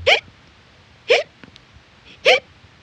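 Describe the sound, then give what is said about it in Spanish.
Three sharp hiccups spaced about a second apart, each a short, abrupt voiced catch, clear with quiet pauses between them. “hipo, que no se te puede quitar.”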